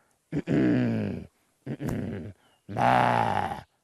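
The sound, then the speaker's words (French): A guide imitates a mountain gorilla's deep, rumbling grunts to calm the gorillas during a tourist visit in Rwanda: three voiced throaty vocalizations in a row, fairly loud, with short pauses between them and no speech. “S'ils font ce son, nous allons continuer d'insister en disant.”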